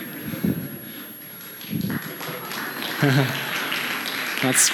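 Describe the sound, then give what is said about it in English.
An audience at Mission Creek church claps for a scripture reading in a steady, dense patter that runs throughout, with a few short bursts of a speaking voice cutting in over the applause. “Clapping for a scripture reading.”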